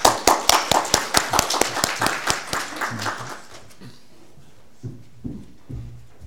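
A small audience claps in a quick, steady rhythm for about three seconds before the applause fades out, leaving a few soft knocks and quiet room noise.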